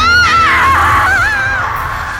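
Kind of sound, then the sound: human body sound, woman screaming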